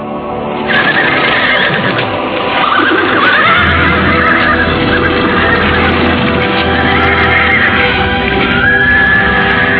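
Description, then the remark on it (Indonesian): Horses whinny loudly over a dense, continuous clatter of hooves and movement as riders dismount, with a couple of drawn-out neighs standing out against the busy commotion for nearly ten seconds. “Adipati Pecatanda memberikan isyarat agar Endang Kusuma Dewi turun dari kuda.”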